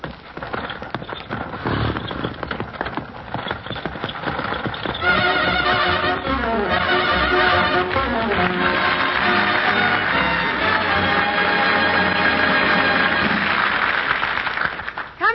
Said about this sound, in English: I would like to hear the sound of a fertilizer spreader. Spreading its cargo over the still frozen knolls of my native Michigan fields about this time of the year. Unquote. Well, I'll drive the horses. Giddy up, Seabiscuit.